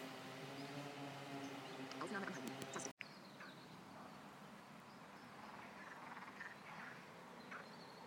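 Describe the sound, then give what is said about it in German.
A dense chorus of frogs and toads croaking at a small pond in Furnas, overlapping calls forming a continuous, fairly loud wall of sound with a brief cut partway through. “Vögel haben wir nicht gefunden, aber Frösche, Kröten. Hier ist ein kleiner Teich und hier geht's ab.”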